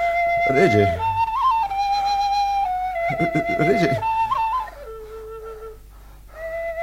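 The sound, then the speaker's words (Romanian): A wooden fluier shepherd's flute plays a slow tune of long, steady held notes stepping between pitches, fairly loud, while a voice briefly speaks over it twice. “Aș vrea să cânt ceva din fluier.”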